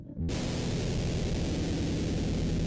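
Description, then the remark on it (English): A loud electric guitar through a fuzz pedal kicks in abruptly and sustains one thick, buzzing, heavily saturated tone with a noisy hiss on top, with no talking. “Here's the fuzz again.”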